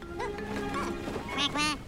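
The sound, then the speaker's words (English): A duck quacks several times in quick succession as it crashes into someone, loud, with nasal, raspy calls filling the short moment. “A duck crashes into him.”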